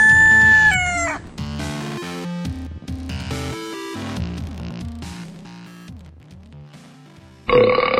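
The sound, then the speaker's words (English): A long, drawn-out series of deep, croaking burps from a person that shift in pitch, rumbling on for several seconds before ending in a louder, rougher burst. “…'s over there burping.”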